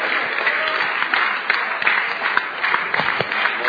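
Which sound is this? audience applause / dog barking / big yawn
audience applause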